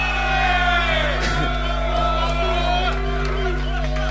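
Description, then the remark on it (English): A loud crowd screams and cheers in a dense, sustained roar, with whoops and shouts rising out of the din for several seconds. “If you want one more from the line, Max, you're going to have to scream, make some fucking noise”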